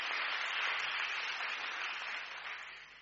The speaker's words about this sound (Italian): Un applauso di incoraggiamento perché è veramente per loro un momento importantissimo.